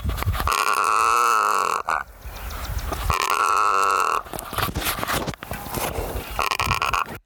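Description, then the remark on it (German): A savanna bird of sub-Saharan Africa cackles like a chicken in loud, harsh, raspy calls, several drawn-out bursts separated by brief pauses, with no talking. “Und wenn der im Nest ist, dann wird ab und zu auch gegackert. Gegackert, wie so ein Huhn.”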